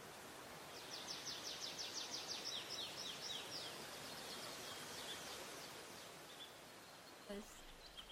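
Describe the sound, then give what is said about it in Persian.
A bird sings a quick series of repeated high chirps over a steady, rushing wash of water and wind, the song fading after a few seconds while the noise continues. “بعد شما میگین صدای آب و هوهوی باد و آواز پرنده و اینا رو میگین دیگه، دل آدم آب میشه دیگه.”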